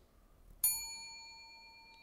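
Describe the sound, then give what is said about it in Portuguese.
An air conditioner gives a single electronic beep as its temperature is set from 22 to 20 degrees with the remote control. The bright tonal chime rings and slowly fades against quiet background, with no talking. “O ar-condicionado está 22 graus, eu estou com calor. Aqui, eu vou pôr 20 graus, ó. Escuta o barulhinho.”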